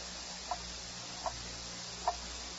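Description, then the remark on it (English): A grandfather clock in a book-lined office with a mahogany desk ticks slowly and steadily, three crisp, evenly spaced ticks standing out softly above a low, constant hum, with no voices. “He has walls full of books, a mahogany desk, and a grandfather clock.”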